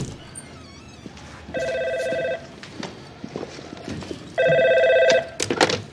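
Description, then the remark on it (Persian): A telephone at a Florida legal aid office rings in two distinct bursts, each a steady electronic warble lasting under a second, separated by a pause, over a busy background of clattering noises. “میتونی تلفن جواب بدی؟ آره. پس برو جواب بده.”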